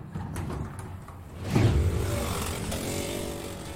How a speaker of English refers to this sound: whipped around another sharp turn, the go-kart's tires screeching as they grazed the edge of the rubber-lined barricade that ringed the track.